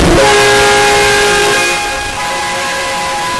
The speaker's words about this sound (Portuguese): isso aí é a buzina do caminhão que bateu lá.